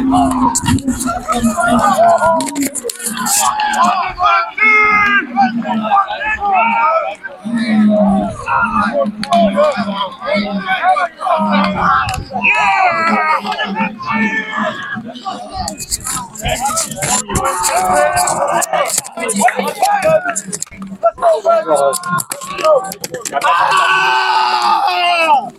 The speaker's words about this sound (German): Jubel bricht aus. Wir haben es gewonnen. 10:11. Déjà-vu. 10 Punkte Unterschied. Aber es ist drinnen. Nehmt es einfach mit, Leute. Hört den Jubel.